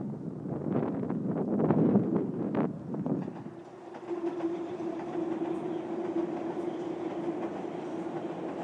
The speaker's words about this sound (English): yeah, train crosses the bridge.